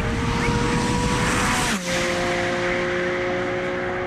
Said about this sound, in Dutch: mocht een Porsche testen. Dit keer de 718 GT4 RS.